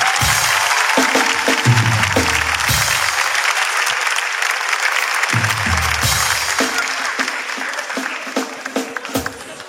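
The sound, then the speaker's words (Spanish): A crowd applauds loudly and steadily, dense clapping with a few cheers and shouts mixed in, sustained for about ten seconds without letting up, as a guest is called in. “Un fuerte aplauso”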